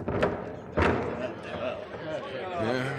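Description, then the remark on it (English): Heavy doors swing open with a couple of deep, resonant thuds, followed by a low rumbling creak as they settle, with faint murmuring voices. The doors are opened to let Jesus of Nazareth come in. “Open the doors. Ask him to come in.”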